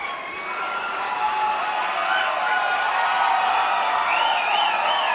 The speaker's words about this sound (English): A lot of cheering, but no sign of the band.